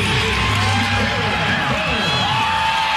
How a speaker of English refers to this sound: Awesome, awesome. You can hear the crowd. Everybody understands what's happening right now. This is a pretty cool moment.